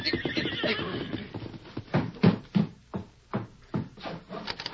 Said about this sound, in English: A broad wagon trail led directly to the house. It echoed now at the hoofbeats of a horse ridden by the widow's youngest son, Emmett Barnes.